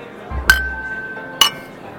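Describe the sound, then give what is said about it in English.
Two bright glass clinks about a second apart, ringing briefly with a sustained tone, as glasses touch in a toast over a low background murmur. “A reminder to all our listeners out there, this is your show. We're just drinking in it. Cheers. Cheers.”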